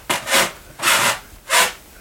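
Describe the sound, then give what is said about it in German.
A wooden floor creaks and rubs under footsteps: three dry, scraping groans about half a second apart, the first doubled, with no voices. “Ja, du knarrst ganz schön.”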